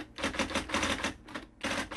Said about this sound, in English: How do you feel about the old clackety-clack of the typewriter, that sound?